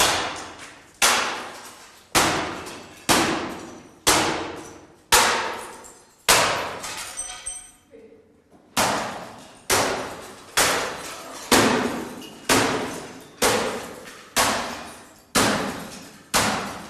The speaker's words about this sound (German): Ja, ja, die Axt. Ja, mit der Axt kann man gut spalten. Ja, spalte den Drucker.